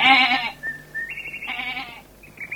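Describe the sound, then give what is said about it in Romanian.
A billy goat bleats loudly while pulling and frisking about, a harsh wavering cry followed by a second shorter bleat and some thinner calls trailing off, with no talking. “Ei, fii capru de treabă și nu te mai zbănțui atâta.”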